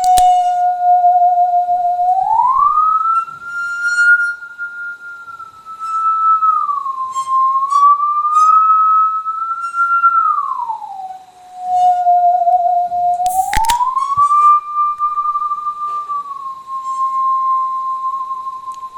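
A singing saw plays a slow melody of pure, sustained tones that glide smoothly up and down between notes, with faint metallic ticks and one brief sharp burst partway through.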